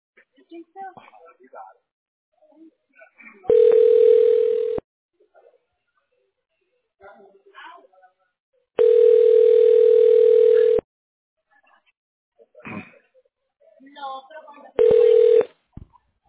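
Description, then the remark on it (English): Loud, steady telephone tones sound in three separate bursts, the middle one longest, while a person speaks briefly in the gaps, as a call is put through to a tax relief line. “Let me get him on the line.”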